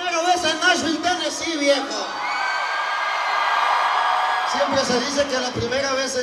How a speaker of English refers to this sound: But here he is, standing in front of a roaring crowd of thousands of Latinos braving a torrential rainstorm in the capital of country music, Nashville, Tennessee.